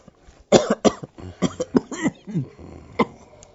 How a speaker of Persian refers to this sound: حالا چند تا نفس عمیق بکش. یکی دیگه. خوبه، حالا چند تا سرفه کن.